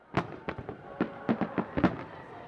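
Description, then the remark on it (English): A rapid, irregular volley of around ten fireworks explosions at a nighttime British naval reenactment of a generic Napoleonic-era fight with tall ships and lights, each a sharp crack with a short rumbling tail, popping off in quick succession at moderate loudness with no voices. “The organizers insisted the nighttime spectacle of tall ships, lights, and fireworks weren't part of a recreation of the actual Battle of Trafalgar, just a generic Napoleonic-era naval fight pitting Team Red against Team Blue.”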